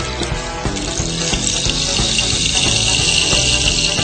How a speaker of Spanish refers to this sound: Efecto palo de agua, norteño. Se está acabando el agua, palo. Se está acabando el agua. Está perdiendo por algún lado. Nos inundamos de semillas.